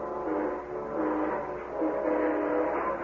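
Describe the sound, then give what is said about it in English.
A passing eastbound train at the coaling station at Elmore Springs sounds a long, droning horn that swells twice over a steady rumble, fairly loud, with no voices. “I rode up to the coaling station at Elmore Springs and flagged down the eastbound train that same afternoon.”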